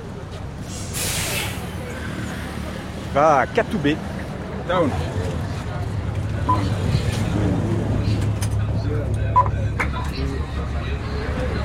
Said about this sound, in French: Voilà le bus. Le bus 101.